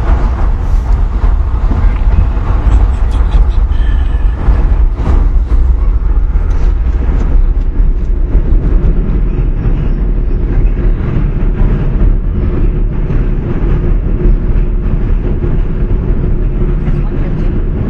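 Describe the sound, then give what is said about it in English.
A loud, steady rumble of a Metro North train passing overhead on an above-ground stretch, a deep continuous roar with rattling clatter that holds for the whole stretch without fading away. “Here we're traveling under the Metro North train, which goes above ground for a bit.”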